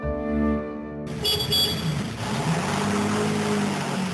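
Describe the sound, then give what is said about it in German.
A car engine hums with a steady low drone, then swells into a louder, rougher rumble as the vehicle drives along. No one speaks. “Mit dem Auto.”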